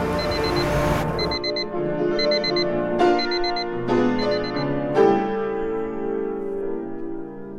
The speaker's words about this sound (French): Quand le réveil sonne, j'ai envie de le manger pour le garder tout entier. 6h30 le matin, s'habiller dans l'air gelé.